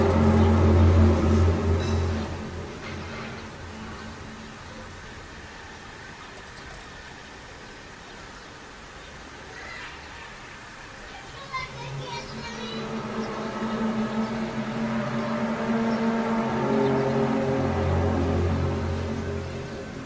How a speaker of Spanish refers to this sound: Estamos escuchando una de las primeras veces que fue captado este fenómeno misterioso que se llama The Hum o el zumbido. Estamos en Kiev en el año 2011. Es uno de los vídeos más virales de YouTube. El zumbido o The Hum en Kiev.